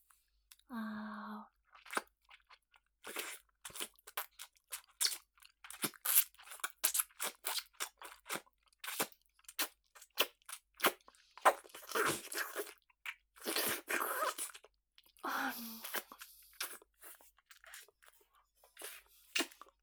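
Moist, crunchy chewing of a mushroom, with irregular squishy bites and soft tearing textures repeating throughout, no talking, preceded by a brief low thump and a short tonal sound at the start.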